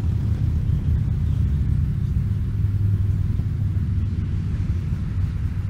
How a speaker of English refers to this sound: I'll wait for the motorcycles.